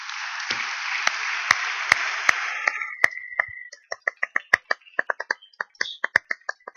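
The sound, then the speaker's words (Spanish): A crowd applauds for the Lord in a dense, crackling wash that thins after a few seconds into rhythmic, evenly spaced hand claps carrying on steadily to the end. No one speaks. “Un aplauso al Señor.”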